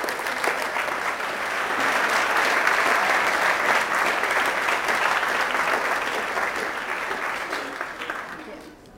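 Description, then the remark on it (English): An audience applauds itself for the summer program's first 40 years. The dense, crackling applause swells early, holds strong for several seconds, then thins and tapers off near the end. No one speaks over it. “So give yourself some applause and thank you for our first and wonderful 40 years.”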